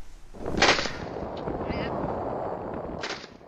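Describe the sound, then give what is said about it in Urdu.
Gunshots fired from a ship at five men clinging to an overturned boat floating on the sea ring out, a sharp crack around half a second in and another near the end, over a constant rushing background like wind or engine noise. “Video میں گولیاں چلتے اور بے بس مردوں کو اپنی ٹوٹی کشتی کے کنارے سے چمٹے ہوئے دکھایا گیا ہے.”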